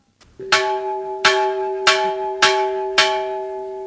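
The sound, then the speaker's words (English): A large plantation bell over 300 years old is struck five times at a steady pace. Each loud clang rings with a long metallic hum that lingers between strikes. The bell is rung at lunchtime to signal 12 o'clock. No voices are heard. “This bell is over 300 years old, and it was used to summon the slaves in from the fields during the time of slavery.”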